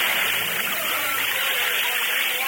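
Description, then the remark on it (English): Water bubbles and churns in a steady, continuous wash of noise, fairly loud, with no clear pauses or individual pops standing out. “Look, the water bubbles.”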